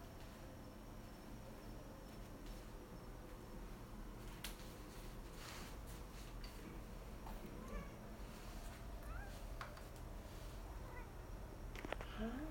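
A few faint, soft meows from a female pet cat named Kitty, lying in her box, over a steady outdoor background of chirping insects and crickets. No one speaks.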